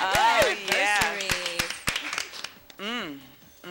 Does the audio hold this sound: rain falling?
no